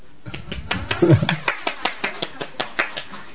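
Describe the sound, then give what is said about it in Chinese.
Hands clap in a steady, evenly spaced rhythm, each clap sharp and crisp, with a brief murmur of voices at the start before the clapping carries on alone; an audience applauding after a long Bible reading at a church service. “我哋应该俾掌声啊，”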